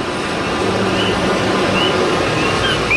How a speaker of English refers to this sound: A few years ago, the intersection of 5th and Lehigh in North Philadelphia was installed with metal palm trees, and now they've been outfitted with tiny speakers. Competing with the din of traffic is the persistent call of the Coqui frog.